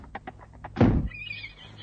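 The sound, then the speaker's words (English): A few quick soft knocks lead into a heavy thud, then Crusader, a horse at the stables, lets out a high, wavering, excited neigh on seeing a woman, trailing off, with no one speaking. “Crusader was screaming with excitement as he saw her.”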